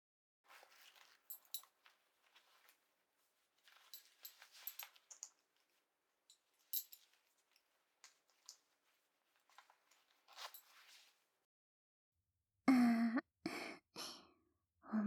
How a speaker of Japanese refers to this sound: チャック、下ろすね。